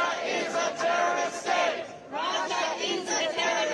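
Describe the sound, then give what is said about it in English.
A crowd of protesters outside the Russian embassy in Washington, D.C., waving Ukrainian flags and marking the first anniversary of Russia's invasion of Ukraine, chants and shouts together in loud, sustained waves, with a brief dip near the middle before the massed voices surge back up. “Protesters waved Ukrainian flags, sang patriotic songs, and chanted as they marked the first anniversary of Russia's invasion of Ukraine.”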